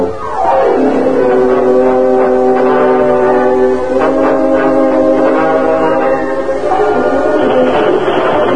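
A train horn blows a long, loud chord that slides into pitch and holds steady for several seconds over the rumble of the moving train.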